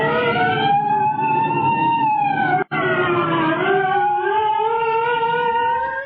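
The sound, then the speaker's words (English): A state troopers' police car siren wails loudly and steadily, its rich harmonic tone sliding slowly down and back up in pitch, with a brief cut in the sound partway through. No one speaks. “Here come the state troopers.”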